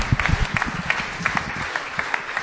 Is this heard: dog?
no